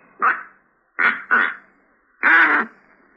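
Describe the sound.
A duck call blown in short, reedy quacks: a single honk, a quick double, then a longer drawn-out one, loud, with brief silences between, no talking.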